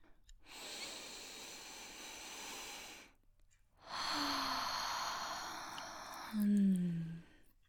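Two long, deep sniffing breaths drawn in while sniffing a pair of panties, separated by a short pause; the second ends with a brief low voiced exhale. No talking.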